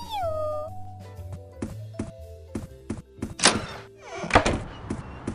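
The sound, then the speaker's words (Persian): A cat meows once at the start, a drawn-out falling cry, followed by a series of dull thumps and knocks, with two louder, busier bangs near the end. “بازم ممنونم جغله، موفق باشی. میو میو.”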